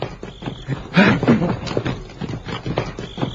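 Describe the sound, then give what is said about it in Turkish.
Horses shift and step as riders dismount, hooves clopping irregularly on hard ground amid rustling movement, with a louder burst of activity about a second in. “Atlardan in.”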